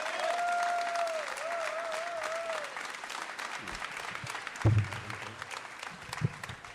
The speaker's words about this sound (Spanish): Recibimos en este tributo a la Chacarera, al poeta Bebe Ponti, con este aplauso fortísimo que le damos.